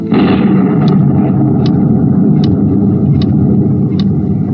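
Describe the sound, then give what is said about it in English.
A car drives through heavy rain on a 3-hour drive to Lake Watika, upstate. A steady loud rumble of engine, tires and downpour, with a faint click repeating about every second, like windshield wipers sweeping. “It was a 3-hour drive to Lake Watika, which was bad enough. But to top it off, it started to rain, and rain hard.”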